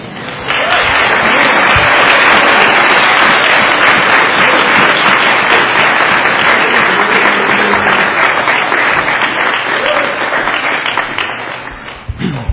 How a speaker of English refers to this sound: I timed that out that you guys would be cheering. So thank you.